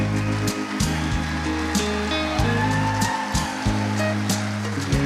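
A crowd claps steadily for several seconds, a dense, even patter of many hands, while low sustained chords play underneath; the audience is applauding couples who have been married more than 50 years.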